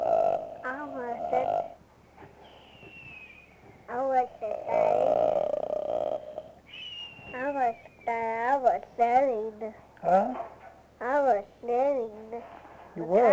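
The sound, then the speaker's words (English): A voice imitates a little girl's snoring as she drifts off to sleep: a run of short, croaky, voiced snorts in uneven rhythm, broken by a couple of thin whistling exhales, fairly loud and with no other talk. “And they go, the little girl kind of snored a little bit. You could hear her.”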